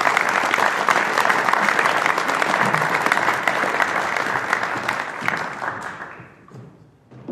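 An audience applauds steadily for about six seconds, a dense, loud wash of clapping that then thins and fades out, with a few last scattered claps at the end.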